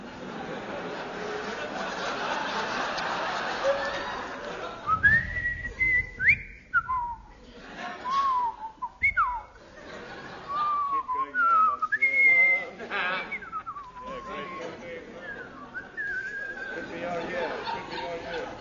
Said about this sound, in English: I will now whistle the soliloquy from Hamlet.